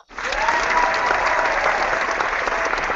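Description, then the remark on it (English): A studio crowd breaks into steady, sustained applause, a dense wash of clapping that starts abruptly and holds at an even, fairly loud level throughout with no talking. “So, with that in mind, let's get the studio crowd fired up and let's talk some footy.”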